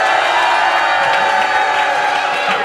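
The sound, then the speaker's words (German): A crowd cheers and shouts continuously, a loud, dense wash of many voices whooping together with no break for the whole stretch. “Also ihr könnt euch selber jetzt noch einmal dann jubeln hören im Radio.”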